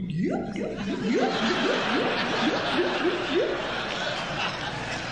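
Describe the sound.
A voice imitates water gurgling, making a quick run of bubbly, burbling pops and rising blips for several seconds, fairly loud over a steady hiss; the performer makes it in the throat, without props, into a Shure microphone.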